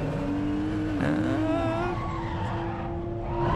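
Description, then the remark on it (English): A drift car's engine drones loudly and steadily after a spin, its pitch climbing and dipping as it revs to keep from stalling, with rough tire-scrubbing noise underneath throughout. Continuous, no voices. “My third was don't stall the motor.”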